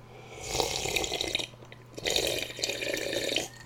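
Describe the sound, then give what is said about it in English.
Someone gulps water in two long, wet swallowing bursts separated by a brief pause, with no talking. “Just taking a big old gulp.”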